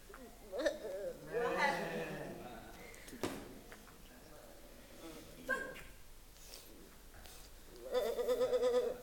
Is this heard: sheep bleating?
yes